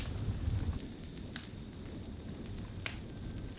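A campfire crackles with a few sparse, sharp pops of burning logs over a steady soft hiss and low rumble, fairly quiet, with no voices.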